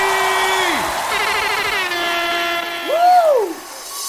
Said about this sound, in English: Good air horn right there.